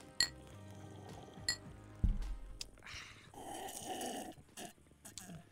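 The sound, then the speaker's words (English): Beer glasses holding Found It IPA from El Segundo Brewing Company clink together twice in a breakfast toast, bright sharp chinks, followed by soft sipping, a low thump and quiet mouth sounds. “A beer for breakfast this morning, guys, which is the taste of the Found It IPA from the El Segundo Brewing Company. Cheers.”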